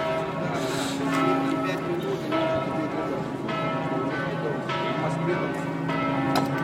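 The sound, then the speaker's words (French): Church bells in Venice peal continuously, their strikes overlapping in a rich, ringing wash of sustained tones. The sound is loud and steady, with new strokes landing every second or so. “On est dans la ville des cloches, donc...”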